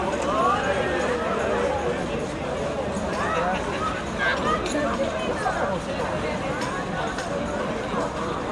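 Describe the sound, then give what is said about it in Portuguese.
Horses' hooves clop along a street amid a busy crowd, sharp irregular knocks cutting through steady chatter and babble of many voices. “Os cavalos estão na boca. Tá bonito os cavalos.”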